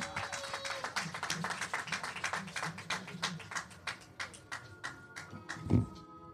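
An audience applauding: many hands clapping in a dense, steady burst that carries on for several seconds before thinning out, with a faint murmur of voices underneath.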